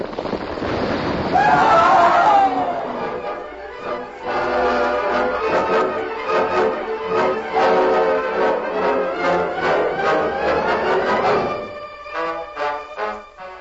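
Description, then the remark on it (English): An avalanche of tons of rock and ice in the Northland, set off by gunfire, roars down in a loud, sustained rushing crash, with droning tones layered through it, before cutting off abruptly near the end. “Tons, rock, and ice buried the two men who had started the avalanche with their gunfire.”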